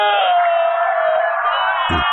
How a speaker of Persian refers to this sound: صدای گریه جمعیت از کجا میاد گمنام؟ فکر کنم خط رو خط شدیم. نه ما توی وزارت یک سیستم صوتی قوی رو انداختیم، هر وقت درباره مظلومیت آقا حرف میزنیم در و دیوار به اذن خدا به گریه در میان.